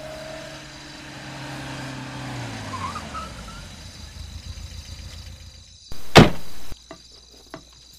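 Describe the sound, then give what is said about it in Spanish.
A car engine rumbles and winds down as an officer's car pulls up with its headlights on and idles, crickets chirping faintly at night, then a loud, brief clunk near the end. “Miren, por allá viene. Así mismo, mira, la luz del carro.”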